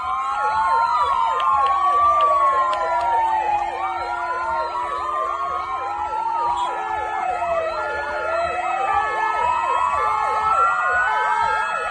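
A long line of many ambulances at the door of Amancio Ortega's house sound their sirens at once, rising and falling tones overlapping in a dense, continuous chorus that stays loud throughout, with a low rumble of traffic beneath and no talking.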